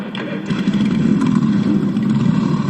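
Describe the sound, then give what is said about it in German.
A dense, continuous, loud rumble of many motorcycle engines being started by riders mounting their bikes along Ludwig-Erhard-Straße at the close of a motorcycle church service event, with overlapping revs and a steady low growl throughout. “Entlang der Ludwig-Erhard-Straße sitzen Bikerinnen und Biker auf und lassen ihre Maschinen an.”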